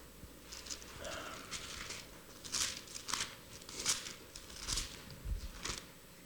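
Pages of a Bible being turned while looking for Psalm 127, passing Psalm 119, a series of soft papery swishes and crinkles coming in irregular bursts over a quiet background, with no one speaking.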